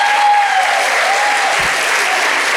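An audience breaks into sustained applause, a dense, steady wash of clapping that stays loud throughout, with a faint whistle-like tone running underneath.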